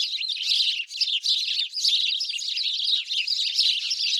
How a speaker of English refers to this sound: The house sparrow is native to Eurasia and North Africa. However, these birds were forced to adapt to many places around the world. They were brought to the U.S. by way of Brooklyn in 1851 to control pesky caterpillars.